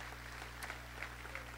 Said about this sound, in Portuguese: Deus entrou no coração do varão. Pode aplaudir o Senhor.